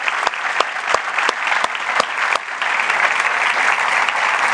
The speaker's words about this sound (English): If you are a veteran, could you please stand? All right. Could you give these people a round of applause?